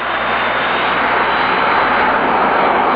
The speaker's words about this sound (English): The plane always come down this fast. It depends on the pilot. This one seems to be quite a cowboy.